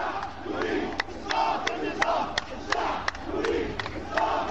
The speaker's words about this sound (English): As prayers came to an end, the mood changed quickly. The crowd moved toward the police and started chanting.